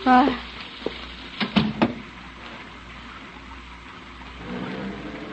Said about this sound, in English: Well, I think you better get out of the rain.